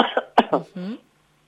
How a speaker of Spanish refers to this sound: Respira porque estamos iguales acá. Cada tanto tenemos que salir y toser.